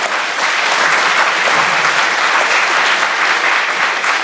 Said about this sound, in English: Okay, final round of applause